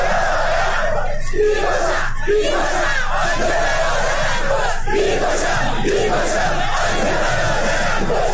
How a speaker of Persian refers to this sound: معترضان با شعارهای بسیجی برو گم شو و ما همه اهل جنگیم به جنگ تا به جنگیم در آبادان